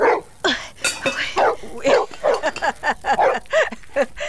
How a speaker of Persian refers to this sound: این سگ پالوی خیمه ما چرا غوغو میکنم؟ این سگ هم به نظر ما به خدا بسیار خطرناک معلوم میشه.